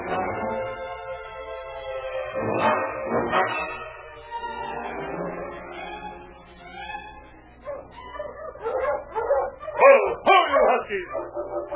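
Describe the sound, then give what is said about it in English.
A dog, King, barks in short bursts, then whines in drawn-out, wavering tones before breaking into a quick run of sharp, excited barks and yelps, loud. “Listen, that sounds like King now. It is King. We're coming, boy.”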